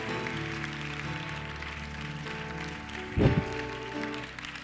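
A crowd claps steadily in praise of the Lord after a prayer, a dense wash of hand claps over sustained keyboard or organ chords, with a brief louder swell near the end.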